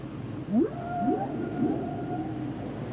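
Whale calls: a few rising, swooping moans and a long wavering tone that fades into a steady background hum, with no one speaking.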